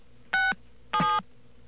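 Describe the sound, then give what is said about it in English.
Two touch-tone telephone dialing beeps, each a short steady dual-pitched tone, separated by a brief pause, clear and fairly loud with no talking, as a phone dials 9 to get an outside line and star 67. “Okay, we're going to dial 9 to get out. And we'll dial star 67, as you say.”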